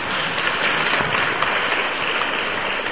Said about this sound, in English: So let us give a clap for all the priests. Takže jim pojďme teď zatleskat.